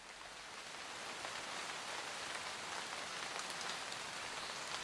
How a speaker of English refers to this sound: Raindrops tapping against the glass of your bedroom window.